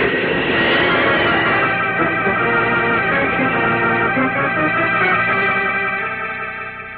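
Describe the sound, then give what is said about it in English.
A great rush of wind roars steadily for several seconds as Superman leaps from the earth by an observatory and streaks away into the sky, a loud broad whoosh threaded with droning, whistling tones, before it begins to fade away at the end. “Dr. Bloomfield and I heard a great rush of wind.”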